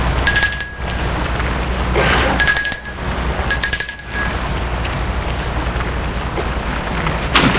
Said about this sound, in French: Après son travail, elle y va. Elle sonne à la porte.